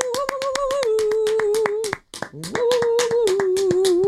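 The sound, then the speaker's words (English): An applause sound effect played from an applause button: brisk, rhythmic, loud clapping with a long sustained whoop riding over it; the applause cuts out briefly halfway, then resumes with another held cheer. “Can you hit the applause button, please? Hold on. Let me get the claps going.”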